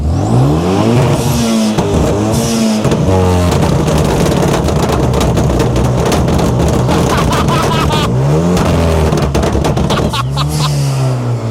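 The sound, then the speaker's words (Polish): A car engine revs hard through its exhaust, its pitch climbing and dropping in several loud, repeated bursts that fill the whole stretch without a break. “mistrzu, pokaż jak wydech działa.”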